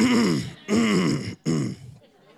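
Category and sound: human body sound, throat clearing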